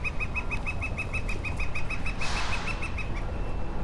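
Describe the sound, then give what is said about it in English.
A woodpecker calls in a steady series of sharp, evenly spaced notes over a rumbling outdoor background, with a brief rustling burst partway through before the calls trail off. “And that woodpecker agrees.”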